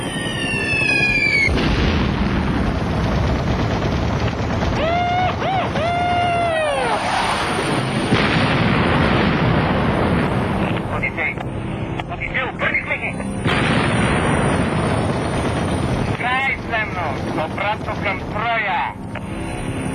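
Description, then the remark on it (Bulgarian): A loud, continuous barrage of booming explosions and heavy rumbling as charges are detonated, with sharp whistling sweeps cutting through now and then and voices faintly mixed underneath. “Пробихме сил! Пускам зарядите!”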